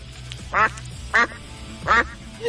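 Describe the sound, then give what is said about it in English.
A duck quacks three times in close succession, loud and nasal, with a shorter fourth call at the end, over a low steady background hum. “Damn so much duck.”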